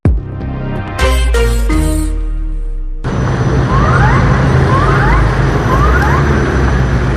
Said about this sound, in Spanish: Esta tarde, sirenas se escuchaban en las calles de la región de Magallanes, en Chile, después del sismo de magnitud de 7,5 grados que tuvo como epicentro en el mar.